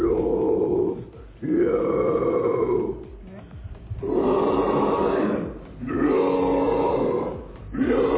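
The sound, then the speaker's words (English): A harsh, growling metal scream, demonstrating the screaming technique taught in singing classes at The Metal Factory in Eindhoven, Netherlands, delivered in four long, gritty bursts separated by short breaths, loud and raw with a guttural, distorted rasp and no other sounds. “Während der Kuren lehren Studenten und Studentinnen an Gesangsklassen Kunst vom Screamen.”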